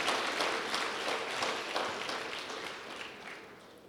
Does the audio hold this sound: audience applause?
yes